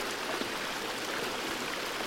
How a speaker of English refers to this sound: Let the sound of the water penetrate deeply into your heart.